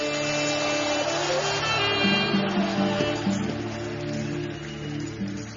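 A church audience at a worship service claps in a dense, steady roar of applause with raised voices shouting praise through it, while sustained low musical tones hum underneath for the whole stretch.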